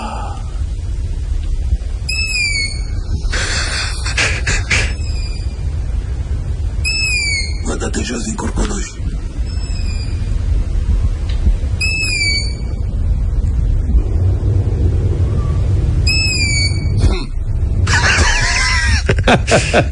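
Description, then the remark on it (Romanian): Several owlets give harsh, rising screeches, repeated in small clusters about every five seconds, with raspy hissing bursts between them and a person speaking quietly, recorded in a garden in Corbeanca on a Friday night around 11 p.m. “Bă, stai puțin, deci puiul de bufniță, sunt mai mulți pui de bufniță care fiecare umblă pe unde”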